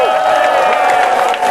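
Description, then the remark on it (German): A loud burst of audience applause and cheering after a reading at the stage of the Climate March (Klimaatmars) on the Zuidas, a dense wash of clapping mixed with shouting voices that holds steady for a moment. “Noch één keer een groot applaus voor Afke.”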